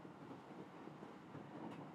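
A moving train interior rumbles steadily at low volume, with a continuous rattling hum and no distinct clacks standing out; nobody speaks.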